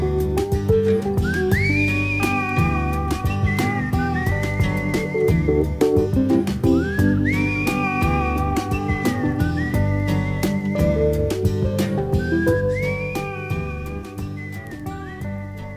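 A man whistles a slow, sliding melody in repeated phrases at the end of a song, over a full band accompaniment, the whistle bright and clear above steady instruments, fading slightly toward the end.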